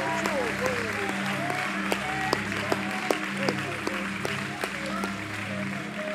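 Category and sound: crowd, audience clapping hands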